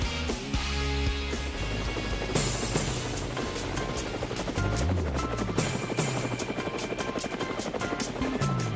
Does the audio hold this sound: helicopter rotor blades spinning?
yes